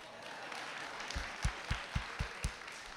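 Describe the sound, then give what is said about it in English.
Clapping from an audience answering by applause whether they read or saw A Dog's Purpose: a steady run of about six evenly spaced claps rising over a soft hiss, with no talking. “How many people read or saw A Dog's Purpose? By applause.”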